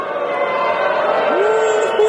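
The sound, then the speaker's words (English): A large crowd boos the mention of the Marquee Network in a steady, sustained low drone that holds at the same loudness throughout, with a single voice rising slightly above the mass partway through. “You guys won't be booing about the Marquee Network in 1 year.”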